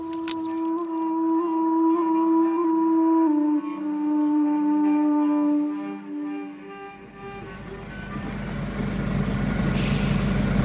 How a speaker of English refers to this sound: Being pulled over by the police here. It's another of this checkpoint. Back on the road, and our car is being stopped at a police roadblock, one of many around this part of northeastern Ghana.